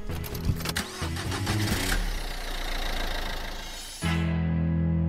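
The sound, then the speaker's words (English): A car engine cranks with a couple of seconds of rough, sputtering bursts, then catches and settles into a loud, steady rumble that shifts to a smoother, even hum. It is the car in which comedian Joel Creasy is being driven home. No one speaks. “you're actually driving me home like an Uber”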